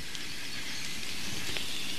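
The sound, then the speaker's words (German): Steady rain falls in a forest with an even, hissing wash and faint scattered patters, holding constant throughout without any voices. “ich mache mich jetzt mal auf in den Wald, nehme euch mit auf eine feuchte, nasse Klangbildreise. Ich hoffe, ihr freut euch genauso wie ich über dieses wunderbare Geräusch im Hintergrund.”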